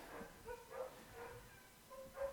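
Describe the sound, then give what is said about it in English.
Several dogs bark and whimper in short, high-pitched bursts that overlap in a quick, excited rhythm, fairly quiet and with no one talking. “The dogs agree.”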